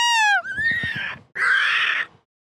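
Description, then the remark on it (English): A loud, shrill staged scream from a single voice in two bursts, a strained, rough yell followed by a short pause and a second sustained shriek that cuts off abruptly. “I was going to pretend to, like, scream, then, like, cut off the audio, but you kept on talking.”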